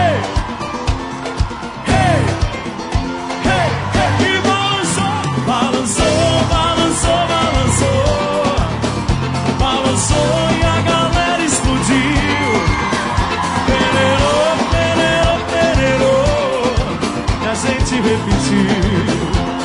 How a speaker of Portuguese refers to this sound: Chega aqui, venham sentir a emoção que eu tô sentindo aqui pertinho dessa galera. Joga a mão pra cima no grito de guerra, vai! Hey! Hey!